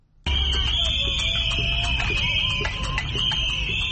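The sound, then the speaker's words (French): Empty cooking pots being banged by victims of former president Hissène Habré's regime in the capital N'Djamena, Chad: a loud, steady din of rapid metallic clanks over a shrill, sustained ringing tone, bursting in abruptly and continuing without pause. “Elles sont passées à une vitesse supérieure en tapant dans des casseroles vides dans la capitale.”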